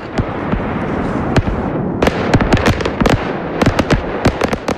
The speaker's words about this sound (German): will Feuerwerk mit Knalleffekt verbieten. Mit der Initiative will er ein Verkaufs- und Verwendungsverbot erreichen. Ausnahmen soll es aber für Grossanlässe geben.